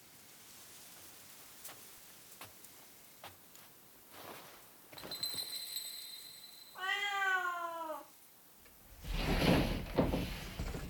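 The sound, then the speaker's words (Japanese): A single clear, drawn-out meow from the white cat of a Japanese inn (ryokan) rings out after a few soft taps and clicks, followed by a broad rushing sound like a sliding door. “この旅館の猫です。”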